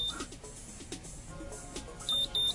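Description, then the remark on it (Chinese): An automatic hair curler, used to curl a strand of hair, gives two short, high-pitched beeps near the end to signal it is done, clear, after a stretch of low background noise and faint handling sounds. “OK， 哔哔哔完了，你就可以放手，是不是有比较卷？”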